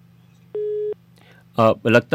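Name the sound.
telephone busy tone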